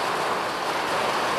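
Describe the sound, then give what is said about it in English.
A dense, steady roar of hailstones pelting down in a squall coming off the Atlantic Ocean in Ireland, a continuous hiss of countless impacts mixed with gusting wind, with no voices. “You have, like, very impressive hailstones today.”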